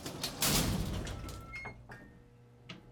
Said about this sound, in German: führte sie in eine beengte Kabine und schloss die Tür hinter ihnen.